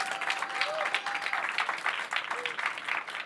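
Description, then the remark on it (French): Steady audience applause at a masterclass on writing comedy sketches, after a practical exercise, a dense wash of many hands clapping at a fairly even level for a few seconds, with faint tonal sounds briefly audible underneath. “Attends, c'est après les applaudissements.”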